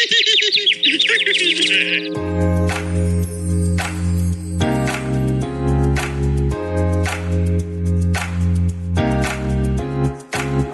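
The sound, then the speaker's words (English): Quick bird chirps and warbling twitters for about two seconds, then loud music with a heavy bass beat takes over and carries on to the end. “Oh, look, a bird!”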